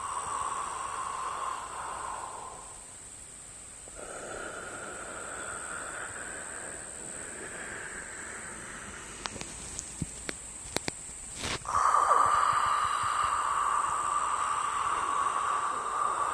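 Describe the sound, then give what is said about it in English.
Steady, hissing breaths drawn through a partially constricted throat, air rushing through the narrowed airway, sounding like ocean surf or rushing wind, in long slow waves with a brief pause, a few faint clicks, then a louder breath. “What you want to do is cause that partial closing or constriction in your throat that will create that sound like the ocean or rushing wind with a characteristic of white noise.”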